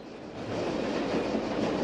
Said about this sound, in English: The train rattles on cross country.